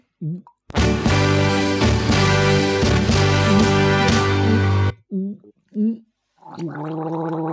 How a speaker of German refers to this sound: Und die Firma Domritter gibt uns zum letzten Schluss noch einen leckeren Tropfen ab, den wir nun die Kehle runterlaufen lassen.